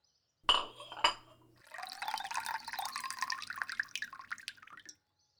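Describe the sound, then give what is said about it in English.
Two sharp clinks of a bowl being set down for a cat, followed by several seconds of water pouring steadily into it, a bright splashing flow that stops abruptly. “Jane puts down water for the cat.”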